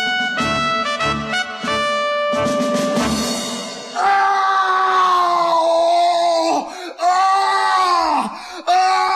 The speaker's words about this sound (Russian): Когда было уже совсем светло, его разбудил ужасный крик.